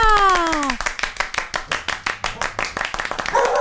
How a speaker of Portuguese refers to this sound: Recebam com palmas a Borboleta!